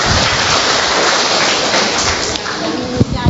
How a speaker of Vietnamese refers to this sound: Rồi chúng ta cho một tràng pháo tay hơn người chị em này cả.